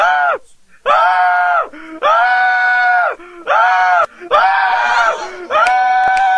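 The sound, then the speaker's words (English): A man's voice loudly imitates a panicked, cartoonish scream like Homer's, in about five drawn-out, strained yells with brief gaps between them, in reaction to a house alarm going off when a door was opened. “So I, you know, freaked out, fucking screamed like Homer.”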